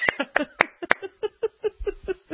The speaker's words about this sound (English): I hear no applause. What happened to the applause? Did we fire the applause guy? All right, so I'm going to applaud.